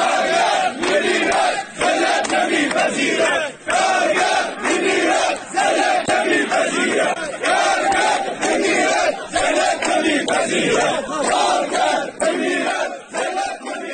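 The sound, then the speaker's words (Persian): A large crowd of striking workers of the Mianab sugarcane agro-industry company in Shush county chants protest slogans in unison against work contracts, low wages and company management, loud and continuous, with rhythmic shouted phrases repeating in steady bursts for the full length. “کارگران اعتصابی همچنین با سردادن شعارهایی به وضعیت قراردادهای کار، دستمزد پایین و عملکرد مدیریت شرکت اعتراض کردند”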